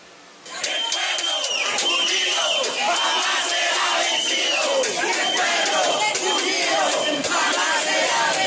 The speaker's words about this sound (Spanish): Arengas, cacerolas, ollas, tapas y vuvuzelas se escucharon con fuerza en las instalaciones del Concejo de Tunja, donde varios líderes de los barrios de la ciudad protestaron por el aumento del avalúo catastral.